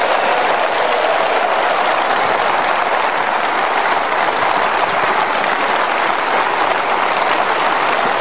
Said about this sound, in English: Well, that was probably the biggest rapturous round of applause that David Cameron got during the conference, nearly half a minute of it.